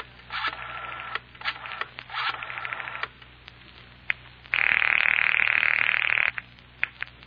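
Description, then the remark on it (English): A quick run of telephone dialing tones beeps out in short bursts, followed by a steady ring tone lasting about two seconds, then a few faint clicks on a thin, phone-line sound. “Now, use your phone. I have to make my report.”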